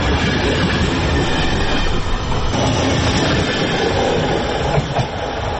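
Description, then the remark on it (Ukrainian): A passenger train carrying about 900 people, travelling from Prague and Bohumín to Przemyśl in Poland, rolls steadily along the rails, a dense continuous rumble with faint rhythmic wheel clatter and a hint of squeal, loud throughout with no voices. “Потяг прямує до Перемишля польського, і там відбудеться пересадка вночі на потяг у Інтерсіті Укрзалізниці, який доправить наших громадян до Львова і Києва.”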